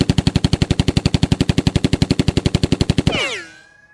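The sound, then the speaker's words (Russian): A rapid, evenly spaced burst of loud gunshots from a .45-caliber Colt, about thirty in three seconds, ending in a ringing, fading tail. No voices are heard. “Достал он свой кольт 45-го калибра и пристрелил Кощея.”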